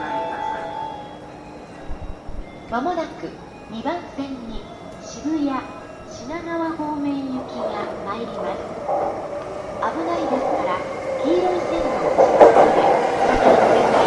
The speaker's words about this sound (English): Okay, that's not our train, that's on another track, but our train is coming on this one.